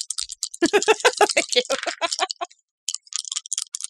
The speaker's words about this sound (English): How many dice okay are we rolling?